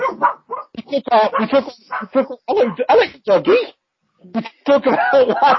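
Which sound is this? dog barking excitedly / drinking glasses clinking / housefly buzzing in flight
dog barking excitedly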